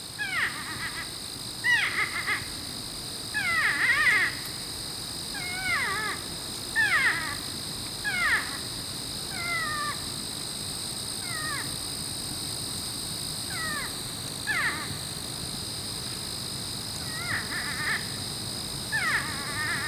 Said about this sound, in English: But porcupines do occasionally vocalize, and their sounds are often very expressive, like these whining squeals, given as one porcupine rebuffs the advances of another.